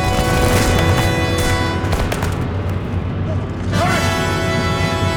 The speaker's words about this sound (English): Second cannon, fire! Fire!